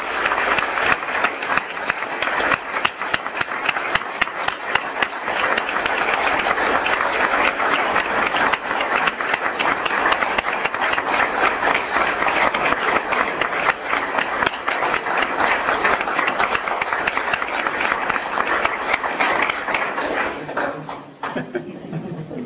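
An audience applauds in a dense, steady wash of many hands clapping for about twenty seconds before it thins out and fades at the end. No one speaks over it.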